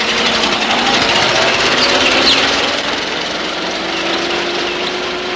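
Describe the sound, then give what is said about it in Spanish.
A car engine runs steadily as Gittis arrives in his car at Hollis Mulray's house, a dense droning hum with a faint tone that slowly rises in pitch. The loudness stays constant throughout and no one speaks. “Tiempo después, Gittis llega en su coche a la casa de Hollis Mulray.”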